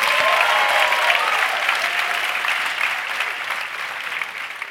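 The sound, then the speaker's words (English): A crowd claps steadily, a dense wash of many hands with no clear rhythm, holding fairly loud throughout before tapering slightly toward the end. “Let's get a round of applause as we're out for the break.”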